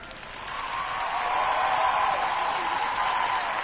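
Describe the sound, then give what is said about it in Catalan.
Steady applause from the left side of an audience, a dense wash of clapping that swells slightly and holds at a moderate level for a few seconds. “Aplaudiments de la part esquerra!”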